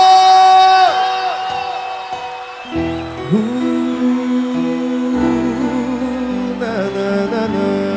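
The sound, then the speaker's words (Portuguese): A large live crowd shouts and cheers loudly for several seconds after singles are asked to raise their hands and shout, scattered whoops and yells rising over a dense, continuous wall of voices that swells again near the end. “Quem tá solteiro nessa noite, bota a mão pra cima e dá um grito!”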